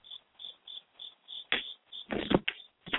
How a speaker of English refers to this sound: I've been hearing them too damn long. I think that's a bunch of crickets. I live on a lake.